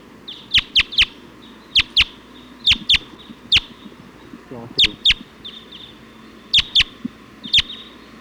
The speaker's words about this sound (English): Flock of about 20. Type 2 birds just came in.